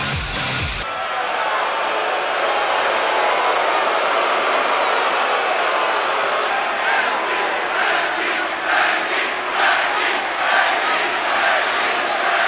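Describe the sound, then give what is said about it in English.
A large wrestling arena crowd at WWE SmackDown roars continuously as a new SmackDown Women's Champion is crowned, a dense wash of cheering and shouting that swells and surges in waves, with scattered louder yells rising above the steady din. “I want you to pay attention to the crowd during this next bit.”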